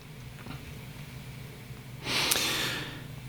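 A single close-up sip from a can of soda, a brief breathy slurp lasting under a second, heard alone against a quiet background with no talking.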